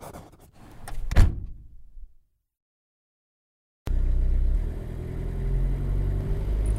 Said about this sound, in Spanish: Alegremente subió al carro y nos pusimos en marcha.